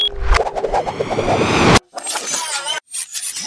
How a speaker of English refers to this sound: I push this button to close the airlock.